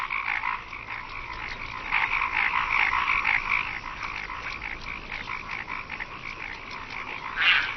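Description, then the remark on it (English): A dense chorus of male paddy frogs calling to attract females at evening in the mating season, overlapping rapid croaks forming a steady, buzzing wall of sound that swells briefly near the end, with no voices present. “It's the mating season, and male paddy frogs are competing for the attention of the females.”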